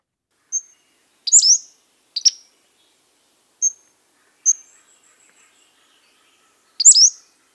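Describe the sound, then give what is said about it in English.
A Pacific-slope flycatcher sings alone: high, thin notes in a sparse pattern, single short whistles alternating with sharper rising slurred phrases, repeated several times with pauses between. “This is the Pacific Slope Flycatcher.”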